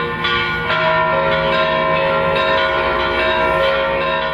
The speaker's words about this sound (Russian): Сотни верующих возле Успенского собора, склонив голову, ждут сюда прибытия митрополита. Говорят, лишь бы рука коснулась. И коснулась. Под колокольный звон владыка благословляет каждого.